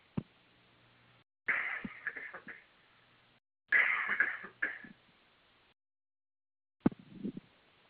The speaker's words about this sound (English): Pardon me. Here comes a cough.